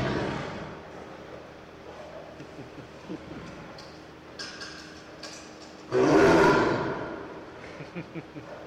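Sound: tiger roaring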